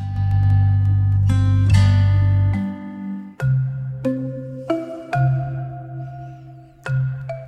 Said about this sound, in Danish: Oh, yes, klokkespil. Åh, oh, yes.